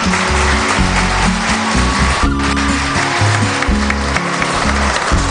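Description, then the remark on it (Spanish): An audience at a Caja Rural de Extremadura event applauds in a dense, steady roar of clapping lasting several seconds, with low, droning musical tones playing underneath throughout. “Suena muy bien los aplausos.”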